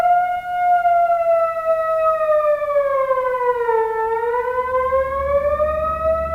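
An ambulance siren wails steadily and loudly, its tone sliding slowly down and climbing back up, with a faint low rumble underneath and no voices.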